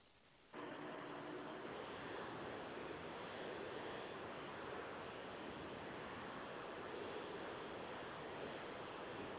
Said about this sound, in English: All right, I think you're driving your car or something.